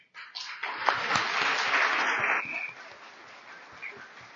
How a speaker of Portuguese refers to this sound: que está em pé lá atrás, para quem eu peço um forte aplauso.